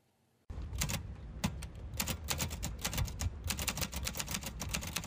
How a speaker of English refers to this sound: is using typewriters to craft custom poetry outside a downtown Bloomington bookstore for tips. It's an unusual business model.